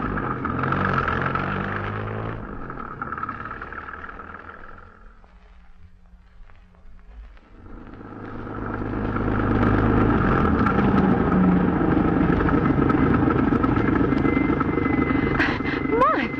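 A car engine drives a long way along a road to an auction with a loud, steady rumble. It eases off briefly partway through, then surges back and holds strong to the end.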